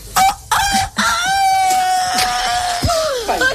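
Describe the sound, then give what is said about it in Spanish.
A woman does a loud imitation of a rooster crowing on the radio, one long strained cock-a-doodle-doo call held for a few seconds and ending with a rising squawk. “haciendo el gallo.”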